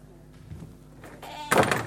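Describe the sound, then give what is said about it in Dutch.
A door creaks with a drawn-out, whiny groan, then closes with a solid thud at the end as it is shut for a moment. The sounds are fairly loud. “ik word een beetje afgeleid door de deur, u misschien ook.”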